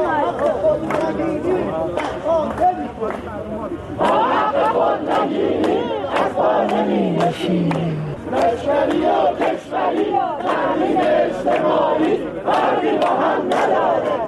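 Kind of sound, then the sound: crowd, protesters chanting slogans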